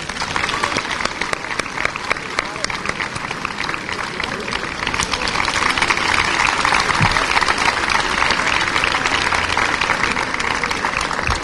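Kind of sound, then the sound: crowd, loud audience applause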